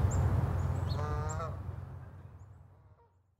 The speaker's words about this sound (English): We went back out to Sapsucker Woods to listen to the birds